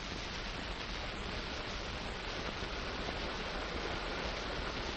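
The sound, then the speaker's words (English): Steady rain falls where prisoners of war are held, in an unbroken, even hiss that fills the whole clip, with no pauses, distinct drops or voices standing out. “I'm sitting there talking to a pal of mine, Bill, listening to the rain.”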